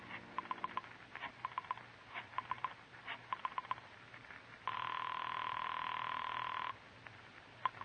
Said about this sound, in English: Once you reach your apartment, you dial Julie's private phone at the club.